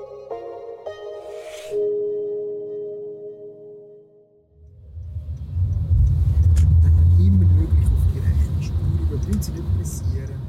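A car's engine rumbles low and steady from inside the cabin as it drives during a driving lesson with a driving instructor, following a brief stretch of tonal music, with faint road noise and occasional clicks.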